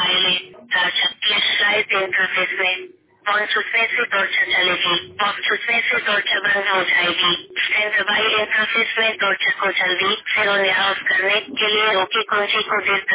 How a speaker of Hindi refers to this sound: ये हिंदी में फोन हो गया है, अभी मैं इसको यूजर गाइड पे पहुंचाऊंगा। ये यहाँ पर आप सारी जानकारी ले सकते हैं। जैसे आज हम टॉर्च के बारे में देखेंगे। टॉर्च के बारे में ये फोन देखिए कैसे बोल के बताता है।